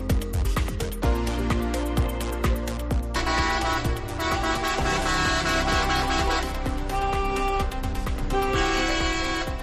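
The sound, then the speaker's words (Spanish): A loud, continuous chorus of horns from driving school cars and tractors honking as the province's driving schools protest through the streets of Ávila over a shortage of examiners and long waiting lists; overlapping blasts and toots of varied pitch with no pauses, over a low engine rumble; no one speaks. “Son tractores, son coches de autoescuela.”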